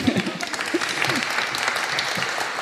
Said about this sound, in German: Herzlich willkommen, ein Applaus bitte.